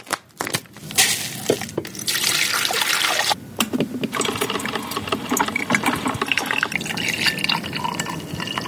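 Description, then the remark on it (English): An old Mr. Coffee drip coffee maker in an office kitchen brews with a continuous hissing, gurgling rush, broken by crackly sputters and small pops. The sound is steady and fairly loud, and no one speaks. “I found an old Mr. Coffee machine in our office kitchen, and we did the thing.”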